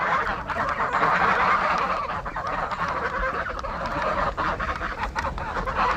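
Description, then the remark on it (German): A large flock of migrating geese at Eiderstedt calls continuously, a dense overlapping chorus of honking that stays steady and fairly loud throughout, with no voices. “Die Zugvögel hier, wenn die im Herbst kommen, die Gänse beispielsweise, und im Frühjahr wieder wegziehen.”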